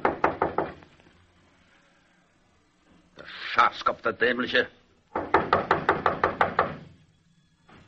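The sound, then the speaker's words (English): A quick burst of loud knocks on a barber shop's wooden door around midnight as a general knocks, then a man's muffled voice, then a longer, steady run of about nine sharp raps. “He got out of his car and, after looking around very carefully, knocked at the barber's door.”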